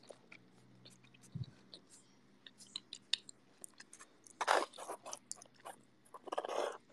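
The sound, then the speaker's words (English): Crunchy chewing of a cookie, with irregular crisp bites and crackles that grow louder and denser toward the end, with no talking. “I don't know, some people don't like chewing sounds.”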